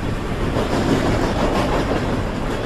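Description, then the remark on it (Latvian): A train rolls along the rails, a loud, steady rumble with a faint rhythmic clatter of wheels running throughout, no voices. “Viens no zaļākajiem un ilgtspējīgākajiem transporta veidiem ir dzelzceļš, tādēļ Eiropas Savienība vēlas panākt, lai iedzīvotāji vairāk ceļotu ar vilcieniem, nevis autotransportu vai lidmašīnām.”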